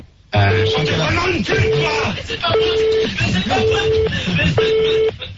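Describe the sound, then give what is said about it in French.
A telephone ringing tone repeats five times in steady, evenly spaced beeps about a second apart, sounding over a loud, busy background of noise and murmur. “Je crois que voilà, tu peux arrêter la sonnerie”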